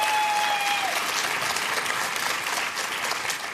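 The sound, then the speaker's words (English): Steady applause from an audience for two panelists, a dense wash of many hands clapping at an even, fairly loud level throughout, with a brief high tone fading at the start. “Again, big round of applause for these two panelists.”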